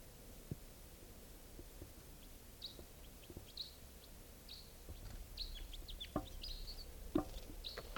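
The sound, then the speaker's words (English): A wild bird, perched with its mate in a tall Douglas fir above a net area, calls with a scattered series of short, high chirps and squeaky notes, joined by a couple of lower clucking sounds near the end, over a soft steady background hiss. “This is one of the birds.”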